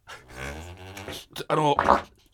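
A person lying shirtless on their back on a desk makes a low, croaky, toad-like fart noise from the neck after taking in air: one long buzzing rumble, then a short pause and a couple of rougher, louder bursts.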